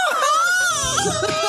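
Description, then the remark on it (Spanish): A recorded man's drawn-out vocal moan played as a sound effect, loud, holding a wavering pitch that dips and rises before trailing off, with some lower voiced sounds underneath toward the end. “¡Basta de poner mi gemido!”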